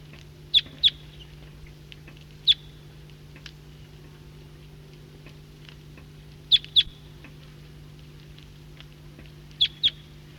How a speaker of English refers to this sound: Flock of the same call type is coming in from the east. Recording this flock is getting restless and calling.